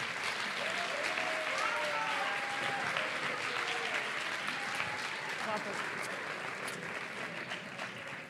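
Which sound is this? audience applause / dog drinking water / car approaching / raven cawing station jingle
audience applause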